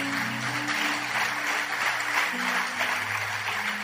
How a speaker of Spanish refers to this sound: El aplauso al Señor.